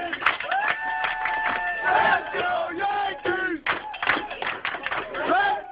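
Yankee fans roar and chant together, loud sustained yells rising and falling over a dense crowd din, with brief dips before the shouting surges again.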